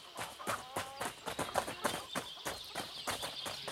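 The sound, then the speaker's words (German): Hooves of horses taking riders to a castle clip-clop in a steady, regular rhythm, a dozen or so sharp knocks, with a faint high whistling tone running underneath. “Ich nehme die Pferde, ist doch klar.”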